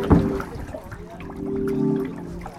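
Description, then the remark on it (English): Water trickling and lapping gently at the edge of a small pond at Cass Lake in northern Minnesota, a steady burble with a small splash at the start and a slight swell near the end. “These are the water noises.”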